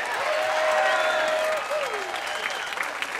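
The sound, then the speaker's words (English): A crowd claps and cheers steadily for a few seconds, the dense applause staying loud throughout, with whistles and excited voices rising above it before it eases slightly toward the end. “Did she do a great job? Give her a round of applause.”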